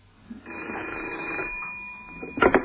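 A telephone bell at Scotland Yard rings with a call from police surgeon Dr. Macpherson, in one sustained, rattling peal lasting about two seconds at a steady pitch, followed by a brief louder clatter at the end.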